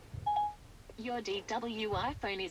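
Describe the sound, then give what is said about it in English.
A short, steady electronic beep with a clear mid-high tone sounds once from Bose Frames smart glasses as the button on the right-hand temple arm is held to call up Siri, followed by a person speaking. “on the temple arm on the right-hand side until you hear a beep, release the button, and then Siri will kick in”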